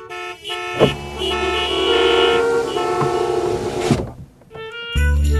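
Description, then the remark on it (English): Several car horns honk over one another in busy rush hour traffic, mostly long overlapping blasts, with a brief lull before one loud horn sounds again at the end. “If you're hearing this on the radio right now, there's a good chance you're sitting in rush hour traffic.”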